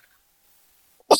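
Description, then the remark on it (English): A single sharp sneeze bursts out after a second of near silence, loud, with a bright hissing spray at its peak. “bless you.”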